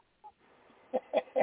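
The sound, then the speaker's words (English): A rooster calls out in a few short, clucking bursts that grow louder toward the end, with no one talking over it. “I think he called back.”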